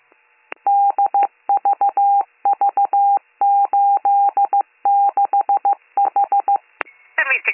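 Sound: telephone keypad dialing tones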